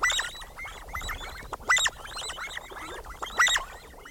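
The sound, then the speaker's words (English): Sandgrouse, pointy-tailed relatives of pigeons, calling in a busy flock, overlapping throaty chirps and gurgles, with louder bursts of calls standing out about every couple of seconds. No one talks. “Sand grouse, pointy-tailed relatives of pigeons, live in some of the most parched environments on Earth.”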